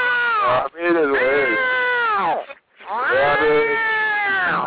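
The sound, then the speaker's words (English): A person's voice imitates a cat, letting out three drawn-out, wavering meows in close succession, loud, with short breaks between them. “You hear that? Meow. Wait, sorry, am I speaking your language?”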